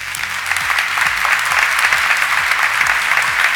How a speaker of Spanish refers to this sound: Largos aplausos tras la intervención de Fernando García Cadiñanos,